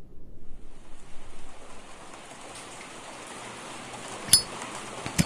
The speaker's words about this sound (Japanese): 数年前の雨の夜だった。